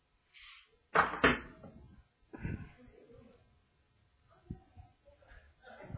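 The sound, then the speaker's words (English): A door swings shut with a pair of sharp knocks, followed by faint shuffling and handling noises. “Let me just get this door, and then I'll be right back in the shot, and then we'll do that.”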